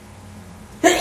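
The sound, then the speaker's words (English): After a stretch of near silence, a sudden sneeze bursts out, loud and breathy, landing in two quick pulses at the very end. “Bless you.”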